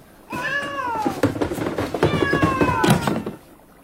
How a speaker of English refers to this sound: Then it's for the cat. No, let the poor brute go. At once.